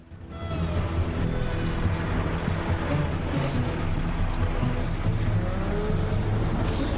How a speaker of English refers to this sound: Frank watches some trucks go by as their row of cars grinds to a halt.